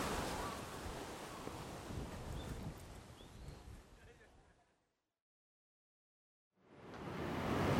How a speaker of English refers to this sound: maybe I'll just keep walking along this water, this little mini river, and just see what happens.